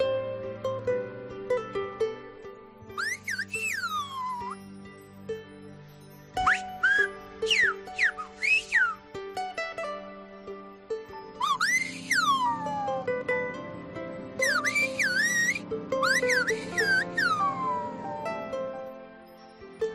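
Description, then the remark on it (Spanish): Loud, piercing whistles in Silbo Gomero whistled language, sweeping up and down in short phrases and bursts with pauses between, over a steady low musical hum. “Esta no es la primera vez que te hemos mencionado el silbo gomero.”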